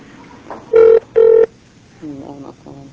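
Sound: telephone ringing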